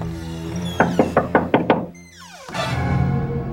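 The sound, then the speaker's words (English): A rapid series of six firm, loud knocks on a wooden door, with pushing on the door, followed by a creak and a rising rattling sound after a brief pause. “While on the stairs, he heard pushing and knocking on the door.”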